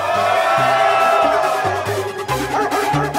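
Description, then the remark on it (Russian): A crowd cheers and shouts in a dense, continuous roar as a first round is announced, while a deep, thumping bass beat pulses underneath at a steady rhythm. “Дайте шума, ребятки!”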